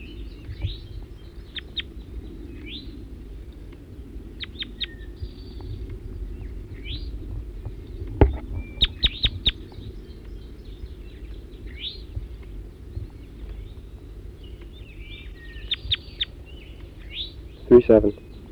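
wild bird chirping

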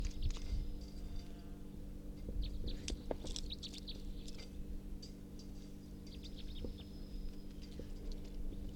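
bird calling

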